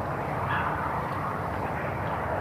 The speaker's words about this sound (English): A lot of traffic out on the highway, out on the bypass. That usually happens when there's not very much wind. And there is not very much wind right now.